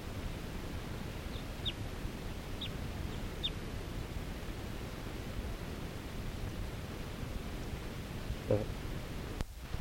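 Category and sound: bird, wild bird calling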